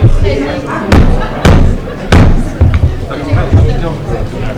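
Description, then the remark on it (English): Three sharp wooden knocks of a gavel ring out in quick succession, loud, over a steady murmur of people talking, as a trustees' meeting is called to order. “I'm gonna bang that gavel.”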